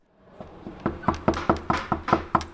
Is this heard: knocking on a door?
yes